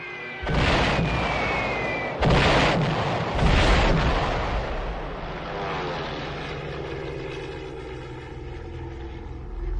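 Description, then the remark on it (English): Stuka dive bombers equipped with sirens scream down with a falling siren-like whine over roaring engines, releasing bombs at the last minute: three heavy bomb blasts in quick succession, then a lingering drone of aircraft engines. “the Stukas, dive bombers equipped with sirens.”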